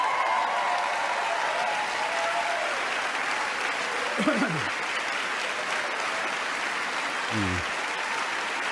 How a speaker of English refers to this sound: Yeah, you'll note that it's only the clowns on the Democrat side that are standing and cheering for that.